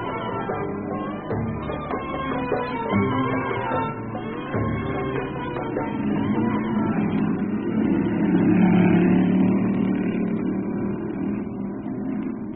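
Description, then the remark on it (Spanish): A sports car engine rumbles along at low speed through increasingly deserted alleys, a steady mid-pitched drone that swells slightly louder partway through before easing back, with no voices. “El auto deportivo avanzaba lento por los callejones cada vez más solitarios.”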